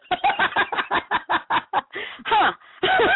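chicken clucking

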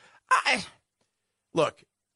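sneeze

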